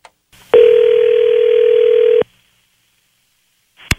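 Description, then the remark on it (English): A single steady telephone tone, the kind heard when a call is placed, here a call to Mom's Spaghetti in downtown Detroit, sounds clearly through a narrow phone line for under two seconds, framed by faint clicks before and after. “There's a phone number that goes with this story. Let's give it a call and see what happens here.”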